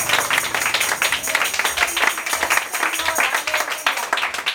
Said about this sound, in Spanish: Y gloria a Dios. Un aplauso al Señor.